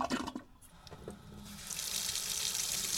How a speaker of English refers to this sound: Now that's drinking water from my kitchen sink. It's the same water used to flush my toilet.